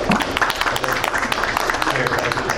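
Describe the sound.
A crowd applauds steadily after a speech, a round of applause in thanks that includes RPM and Commissioner Naft, dense overlapping claps at a fairly loud, even level, with some voices mixed into the din.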